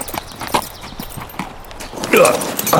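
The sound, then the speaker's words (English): A saddled horse is led out into an alley, hooves clip-clopping on hard ground at an unhurried, even pace, each clear hoof strike moderately loud, with a brighter burst of sound rising near the end. “There, he saddled his horse and took it out into the alley.”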